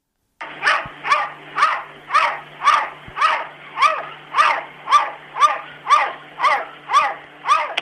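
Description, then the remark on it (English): A cat barking out of a window lets out a steady run of about a dozen loud, dog-like barking calls, evenly spaced, with no voices alongside. “So the cat starts, it's like barking out of the window.”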